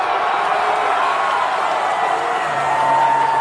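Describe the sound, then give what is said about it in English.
A large outdoor crowd of hockey fans, gathered outside the Lightning's home arena in Tampa to watch on a big screen, roars and cheers on its feet as the final buzzer sounds, a steady, dense wash of noise, loud throughout with whoops rising near the end and no clear single voices. “And when the final buzzer sounded, the whole crowd was on its feet, supplying the roar that the broadcast was missing.”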